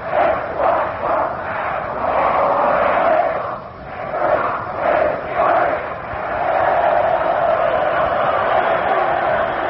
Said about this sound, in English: First period of the football game from the Yankee Stadium. Army nothing, Notre Dame nothing. A very even game today. Here's a Notre Dame cheer from across the field with time off. Let's listen.